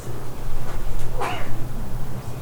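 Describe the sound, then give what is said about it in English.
A single short dog bark rings out midway, brief, over a steady low hum in otherwise quiet surroundings with no one talking. “Even dogs.”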